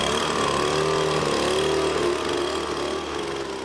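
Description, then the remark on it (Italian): A loud, steady motor whine of a leaf blower drones, layered over a continuous rumble of street traffic, holding level before easing slightly near the end, as the first trees begin to lose their leaves. “Intanto i primi alberi cominciano a perdere le foglie, il rumore dei primi soffiatori si sovrappone a quello del traffico.”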